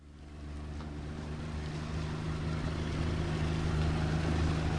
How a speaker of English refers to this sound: It's dawn in Bangladesh. We're on the mighty Brahmaputra River, which splits and curves as it carves its way through this low-lying land.